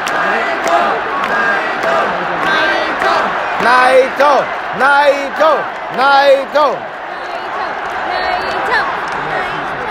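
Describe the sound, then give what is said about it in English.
A large arena crowd cheers loudly for wrestler Naito at a wrestling match, a steady roar throughout, with bursts of rhythmic chanting and shouting from many voices rising in the middle. “Wow, this crowd has come alive for Naito.”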